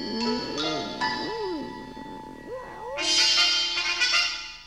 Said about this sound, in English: That, Miss Lincoln, is simply my cat.